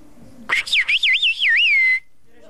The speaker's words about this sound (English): long-distance whistling remains a convenient means of communication when your nearest neighbor might be several hundred meters away